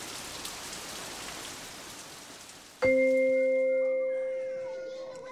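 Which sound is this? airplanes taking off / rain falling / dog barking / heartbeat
rain falling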